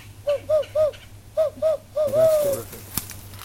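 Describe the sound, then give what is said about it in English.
Two owls hooting in a hardwood hammock: a rhythmic run of short, clear hoots in two groups of three, then a longer descending call, over a low steady background hum. “Two owls in a hardwood hammock.”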